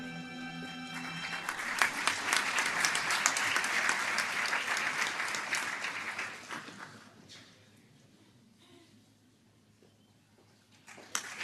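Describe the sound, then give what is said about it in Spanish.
Audience applause at a doctoral graduation ceremony as new doctors in Social and Legal Sciences embrace the rector: a dense crackle of many hands clapping, loud at first, then thinning out and fading to a few scattered claps near the end. “Escuchan ese aplauso, ese abrazo que se han dado con el rector y esa foto, ese reconocimiento, esa ilusión tras tantos años realizando el doctorado.”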